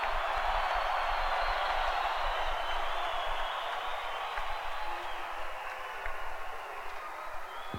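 An audience applauds in a dense, continuous wash of clapping that holds steady and loud for several seconds before easing slightly toward the end, with no speech over it.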